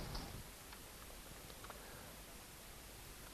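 A faint clock ticks at a steady, unhurried pace, its small clicks half buried in a constant hiss of background noise, with no one speaking.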